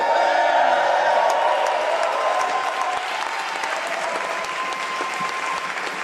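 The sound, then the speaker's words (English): A large crowd roars with sustained applause, screams and cheers, loud and steady throughout, with scattered whoops rising above the dense clapping. “Let me hear you scream.”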